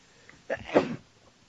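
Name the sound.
sneeze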